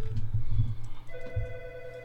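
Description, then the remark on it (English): A phone starts ringing about halfway through with a steady electronic trill, clear, over a low rumbling background with no talking: an incoming call from jail. “Yo, let's take a call from jail real quick.”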